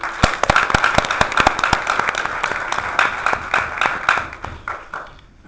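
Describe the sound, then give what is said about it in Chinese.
An audience claps steadily to thank a speaker after a talk on science, in a dense, crackling patter of many hands that holds at a lively level for about five seconds, then thins out and fades. No one speaks. “让我们再次用掌声对他表示感谢。”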